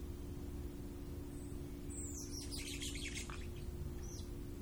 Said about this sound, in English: There are nighthawks and owls, all sorts of birds of the night making their presence known. You can see their outline as they fly against the background of stars.